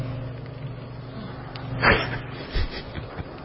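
A low steady hum carries a single rough, snorting breath of a snore, followed by a softer, shorter snuffle a moment later, then the hum alone.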